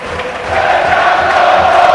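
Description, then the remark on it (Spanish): The packed crowd at Atlético de Madrid's Calderón stadium roars in an ovation for Torres as he warms up, a dense, loud wall of cheering and applause that holds steady and swells slightly over two seconds, with no single voice standing out. “Sí, ahí veo a Juanfran, que ahora mismo recibe una ovación de la parte de la grada donde va a calentar, del fondo sur y de la de tribuna, calienta Gaitán también y ahora ovación de gala para Torres. Fíjate el Calderón cómo está con Torres, mira.”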